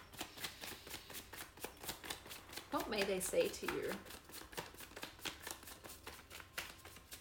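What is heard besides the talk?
shuffling tarot cards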